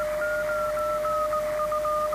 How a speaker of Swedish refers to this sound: Här har jag lagt mig precis på samma ton. Och när jag vrider på frekvensspelaren i ratten så hör jag att han flippar iväg.